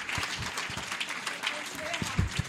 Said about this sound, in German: Applaus für euch selbst. Super.